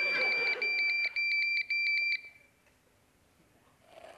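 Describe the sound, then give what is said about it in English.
A loud, high-pitched low-battery warning beep from a cell phone at 10% battery sounds as a steady tone, then breaks into a quick series of pulsing bleeps before cutting off into near silence. “I'm losing battery on my cell phone. It says 10% left, but we all know that means it's gonna cut out in about 6.”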